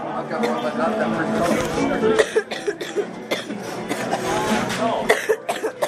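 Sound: repeated coughing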